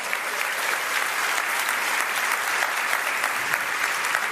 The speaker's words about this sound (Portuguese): Louvado seja o nome do Senhor. Você pode aplaudir esse Deus?